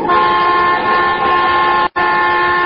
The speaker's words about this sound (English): What are you honking now for? He's gone. Your horn. What about it? Oh, nothing. I thought I'd heard it before.